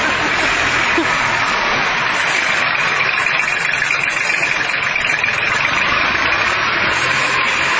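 A Kubota tractor engine idles at a 4th of July parade, a loud, steady rumble with a constant mechanical hum that holds evenly through the whole stretch without revving or stopping.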